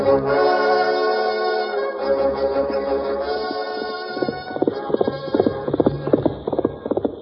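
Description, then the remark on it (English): A horse pushed hard by its rider Birdwell gallops in moonlight, its rapid, steady hoofbeats pounding in after a few seconds of sustained orchestral music that keeps playing beneath the clattering rhythm. “Looked like Birdwell pushing his horse plenty hard.”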